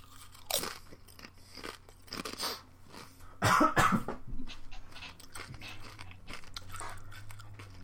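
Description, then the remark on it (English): Crackling and crunching as a dry, dusty, brittle snack is broken in half, a few sharp bursts with the loudest in the middle, followed by softer rustling and breathy sounds. No one speaks. “Okay, just doing the break in half thing.”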